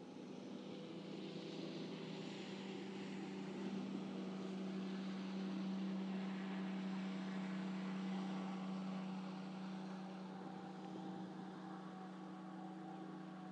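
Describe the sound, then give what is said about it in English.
A steady engine drone from boats heading quickly down a river on a sunny day with a fairly cool breeze, a constant low hum with motor harmonics that holds at a fairly even loudness, with no voices. “Boats there heading down the river rather quickly.”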